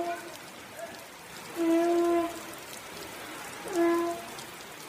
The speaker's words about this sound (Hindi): यहाँ श्रृंगेरी में फिर से बारिश होने लगी है और बारिश से बचने के लिए लोग इधर उधर भागने लगे हैं।